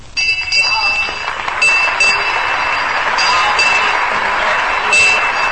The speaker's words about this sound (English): So be sure to listen. Next week, same time, same station, for the sound of the crier's bell.